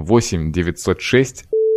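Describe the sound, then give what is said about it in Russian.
A man speaks rapidly, reading out a woman's phone number, then a loud, steady mid-pitched censorship bleep cuts in over the number and holds as a single flat tone until the end. “А мы тоже запикаем.”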